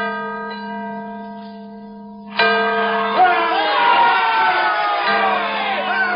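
A large, famed bell, previously cracked and then repaired, rings out on February 22, 1846, the anniversary of George Washington's birth, with a deep, sustained tone that hums and slowly fades, then a crowd suddenly erupts in loud cheering and shouts over the lingering ring.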